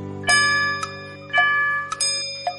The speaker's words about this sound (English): The clock struck two.